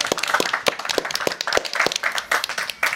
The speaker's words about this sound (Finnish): Ja tervetuloa myös yleisö täällä Oodissa. Alkuaplodit teille ja keskustelijoille.